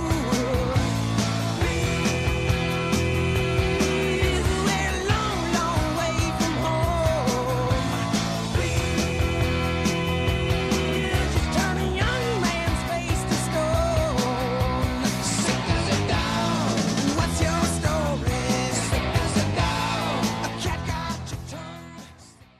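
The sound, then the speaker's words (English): A loud, dense rock song plays throughout, with driving drums, distorted guitars and sung vocals at a steady energetic pace, fading out sharply in the final couple of seconds. “But take a listen to this song, first of all.”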